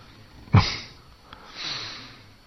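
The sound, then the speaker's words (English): A sharp nasal sniff opens with a burst of breathy noise, followed after a short pause by a softer, longer airy inhale through the nose, with no talking. “311 trillion years later, he's finally inhaled.”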